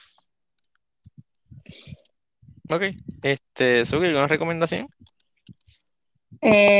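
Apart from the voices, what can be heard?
mechanical keyboard typing clicks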